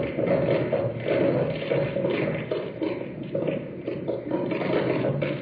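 Sediment-laden rainwater runoff flows and splashes steadily across a conventionally farmed sugarcane field during rainfall, a continuous, fairly loud gurgling rush with no pauses and no voices.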